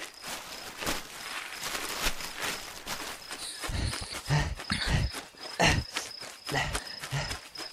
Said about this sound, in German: Der Bär rennt weg.